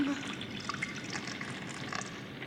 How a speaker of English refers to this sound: come to this your battle helmet as we pour the warm blood of your servant.